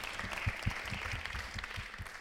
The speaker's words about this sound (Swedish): Innan vi sätter igång vill jag bara säga att det är 100 år sedan kvinnor fick rösträtt. Så jag tycker vi ska ge en stor applåd till det. För det är väldigt, väldigt stort.